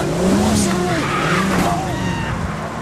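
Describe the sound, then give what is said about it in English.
Big Boss Man's car revs and pulls away as Big Show jumps on it to try to stop it; tires squeal and skid, pitched screeches rising and falling over a loud, steady engine roar for about three seconds. “So then Big Show attempts to stop Big Boss Man's car by jumping on it.”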